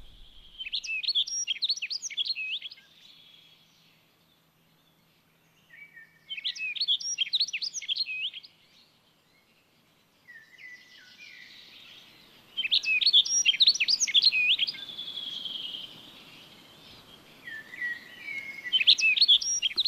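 A rustic bunting sings: short, bright warbling phrases repeat four times with pauses between, each a quick, melodious jumble of high notes; faint background hiss rises in the later half.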